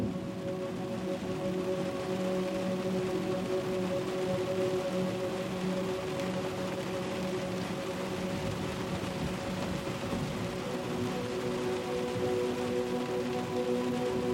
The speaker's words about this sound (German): Der Regen ist jetzt nur noch ein sanftes, gleichmäßiges Rauschen, das dich trägt.